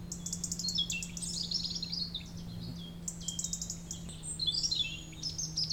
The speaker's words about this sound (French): On se retourne là vers donc ce paysage, ce champ de croix très paisible. On entend le chant des oiseaux.